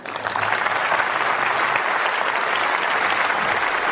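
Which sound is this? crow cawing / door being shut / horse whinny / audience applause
audience applause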